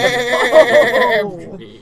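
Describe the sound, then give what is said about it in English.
A man imitates a sheep's bleat at someone, one wavering, nasal "baa" lasting over a second with a quivering tremolo, loud, trailing off at the end. “I think he just called you a sheep.”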